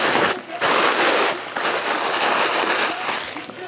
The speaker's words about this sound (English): Tissue paper.